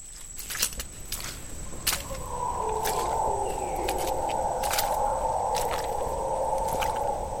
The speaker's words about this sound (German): Das sind Brüllaffen, die in der Ferne rufen. Ihr Heulen klingt wie ein melodramatischer Chor, der die Ruhe des Waldes unterbricht.